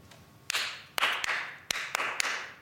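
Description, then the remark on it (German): A group at a Staatstheater Hannover opera workshop claps together in a rhythm exercise, trying to clap in time, sharp loud hits falling in short uneven clusters over a steady wash of scattered softer claps, with no voices. “Die Gruppe soll in dieser Rhythmusübung gemeinsam im Takt klatschen.”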